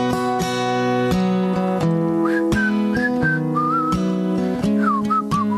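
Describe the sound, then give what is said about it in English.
A clear, bright whistled melody glides and wavers over a steady strummed accompaniment, the tune rising and falling in short phrases at moderate loudness, performed in the Democracy Now! studio in New York. “It's kind of ironic whistling for something, for the melody.”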